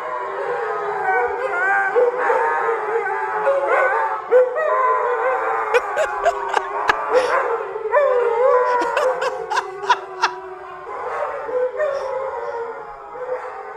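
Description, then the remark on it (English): Several dogs belonging to Mariners player Crawford's family, sitting at home in front of a TV showing the Mariners game, howl together in long, wavering, overlapping wails, joined by sharp yips and short barks in the middle, loud throughout. “And meanwhile, a member of his family is got the game on TV at home, and his dogs are sitting in front of it.”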